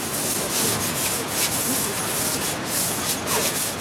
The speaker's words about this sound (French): Il y a beaucoup de machines. Ça fait du bruit. Donc, on essaye de rester le plus proche possible, que tout le monde s'entende.